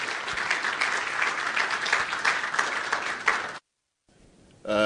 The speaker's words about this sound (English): Why don't you give him a big round of applause as he takes to the stage?